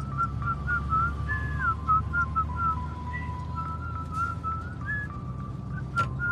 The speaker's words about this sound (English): whistles as he drives his car.